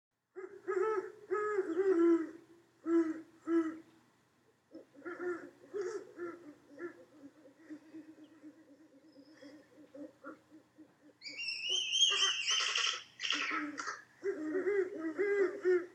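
Deep, rhythmic mating hoots from a male and female great horned owl pair, low phrases repeating in series, joined midway by a higher, raspier second owl's calls; late on both give 5-note calls, then the male calls from a distant perch. Clear, with no talking.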